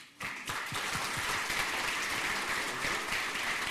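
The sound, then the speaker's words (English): A crowd breaks into sustained applause welcoming the speakers of a talk, many hands clapping in a dense, steady wash that starts abruptly and holds at an even, fairly loud level throughout. “Let's have an applause for the people here.”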